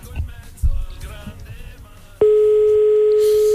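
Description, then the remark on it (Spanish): Muffled background noise gives way to a loud, steady telephone ringing tone on the line, a single unbroken electronic pitch that starts abruptly and holds clear until the end; the call goes unanswered. “Hay gente que se le escapa el teléfono. No lo coge.”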